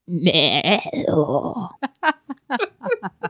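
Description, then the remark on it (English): A person imitates a goat with a loud, quavering bleat lasting under two seconds, then whispers darkly a rapid string of short, breathy syllables. “It's I have to think of what it's gotta be a fusion of like dark language and goat language and okay.”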